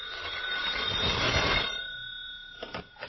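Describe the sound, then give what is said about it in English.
A telephone bell rings in one sustained, shrill burst lasting over a second, then cuts off, leaving a quieter tail with a few faint clicks. No one speaks. “Oh, telephone. See, something's happening already. I'll answer, Mom.”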